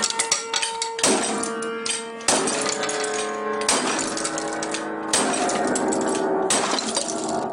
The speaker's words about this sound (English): "Here's my mother's piano." He videotaped himself holding up a giant wrench in front of a little upright piano. "Right here." And then smashing it down.